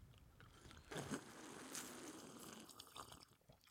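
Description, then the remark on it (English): Wet slurping of a purple cocktail, Pessim's Potion, made with blueberry lavender syrup, blueberry-infused vodka and soda water: a continuous sipping noise lasting a couple of seconds with a few smaller gulps and mouth sounds as it trails off, no talking. “Shall we slurp?”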